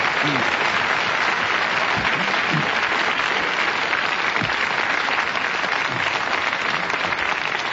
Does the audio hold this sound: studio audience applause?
yes